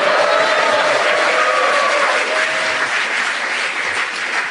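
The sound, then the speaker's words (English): An audience breaks into sustained applause for a panel-game contestant who won a point with a correct challenge, a dense, loud wash of many hands clapping at once that holds steady for several seconds before easing slightly toward the end. No voices are heard. “Your erudition not only gained you a point, but a big round of applause”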